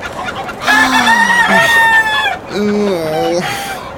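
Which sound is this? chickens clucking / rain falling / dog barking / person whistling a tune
chickens clucking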